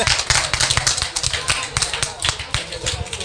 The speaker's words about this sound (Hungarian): Hát azért tapsoljuk meg magunkat, vagy nem tudom.